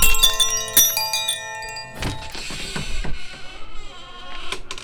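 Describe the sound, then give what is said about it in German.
A doorbell chimes with a few bright, ringing tones that linger and fade, followed by shuffling, clattering movement. “Klingelt doch lieber an der Tür.”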